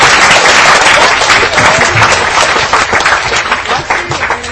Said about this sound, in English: And thank you guys for all of your nice participation. Give yourself a nice round of applause. Thank you.